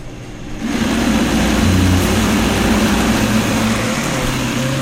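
A blender motor kicks on after a brief pause and whirs loudly and steadily, a dense, humming grind pureeing spinach with no talking over it.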